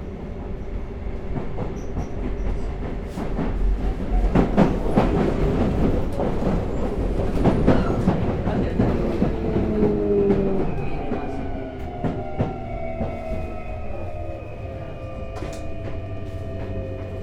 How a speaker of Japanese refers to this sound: この電車は泉野線快速湘南台行きです。終点の湘南台まで各駅に停まります。まもなく発車いたします。